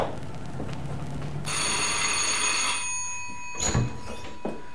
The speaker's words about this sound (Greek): Ας χτυπήσω τώρα το κουδούνι.